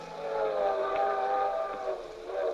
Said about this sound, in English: We were on a circus train, the three of us in the trapeze act, going from Tulsa to St. Louis.